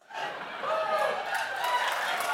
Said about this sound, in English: Oh my gosh, if you're listening to this later, all the scientists in the museum just applauded me.